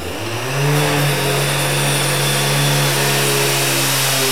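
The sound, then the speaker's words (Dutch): A power grinder used by riot police cutting through a barricade while clearing a building spins up within the first second, then holds a loud, steady motor whine with a harsh, gritty hiss over it as it cuts. No voices are heard. “Ze zijn nog druk aan het slijpen.”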